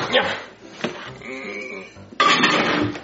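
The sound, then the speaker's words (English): Clatter of a dish holding a homemade cake of marshmallows, macaroni and cheese and syrup being handled and set down inside a microwave, with a few scraping knocks and a louder burst of rattling near the end. “All right, now I gotta put it in the microwave.”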